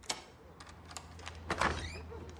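A door being opened, with a few sharp latch clicks and a heavier thunk partway through, over a low steady background hum. No one speaks.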